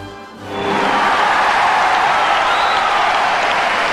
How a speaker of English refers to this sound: A roar of applause, and on the far side of the rink, the people are standing and applauding.